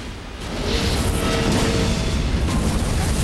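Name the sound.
massive explosion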